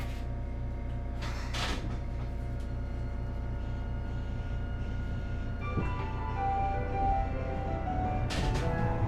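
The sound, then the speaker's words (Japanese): An electric streetcar bound for Hakodate Dock-mae in Hakodate, Japan, rumbles along steadily, its motor humming and whining with shifting tones, broken by two short hissing bursts near the start and end; no one speaks. “電車は函館ドック前行きです。”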